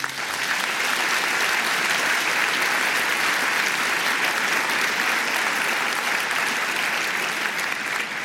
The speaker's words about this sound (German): Es kommen noch ein paar, also teilt euch den Applaus ein.